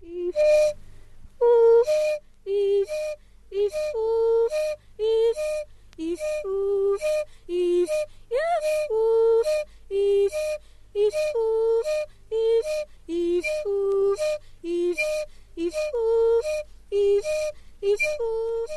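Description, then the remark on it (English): A man of the Benzele Pygmies of Central Africa whistles a single note that trades off quickly with his short sung vocal notes in a steady, bouncing rhythm, in the piece Hindehu, repeating for roughly twenty cycles with no talking. “Here's one where a singer is playing a whistle with a single note.”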